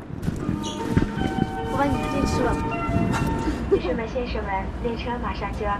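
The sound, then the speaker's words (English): A sustained electronic chime for the doors closing rings out inside a carriage of the Shanghai to Beijing bullet train, over steady rumbling cabin noise, with a voice announcement running beneath and after it. “The doors close. Next stop, Beijing.”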